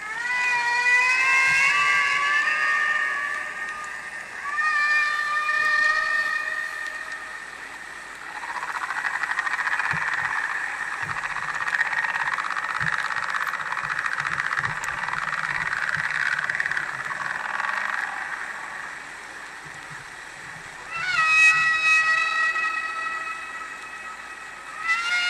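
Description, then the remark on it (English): Humpback whale song from the 1970 album, produced by marine biologist Roger Payne: long, wavering, high wails with rich overtones that slide up and down in pitch, giving way to a rough, droning middle stretch before a rising cry returns near the end. “Those sounds, those vocalizations, are taken from an album called ….”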